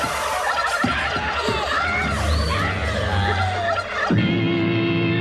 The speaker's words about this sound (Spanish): ¡El pavo!